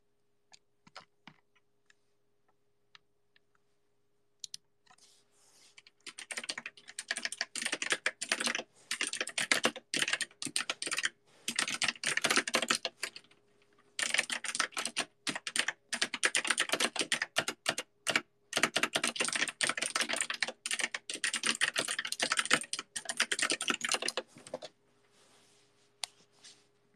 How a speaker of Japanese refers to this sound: みんなタイピング音好き？